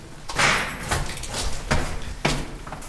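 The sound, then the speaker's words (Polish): An original armored bunker door weighing nearly half a ton shifts, giving several dull clanks and scraping thuds spaced unevenly over a few seconds, with a faint hollow, echoing background. “Drzwi oryginalne, pancerne, prawie półtonowej wagi.”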